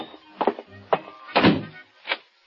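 A door shuts with a solid thunk amid a few other dull knocks and bumps spread over a couple of seconds, with no voices.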